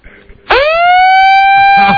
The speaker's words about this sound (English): The sound of a siren. A siren coming from the ambulance as they pick your body parts up off the carpet.